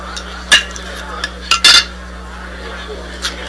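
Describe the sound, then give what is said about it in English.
Cutlery scrapes and clacks against a plate in a few sharp bursts, with a louder scuffle near the middle, over a low steady hum and no talking. “Conversation on hold, the scuffle and clack of her cutlery send out signals not difficult to interpret.”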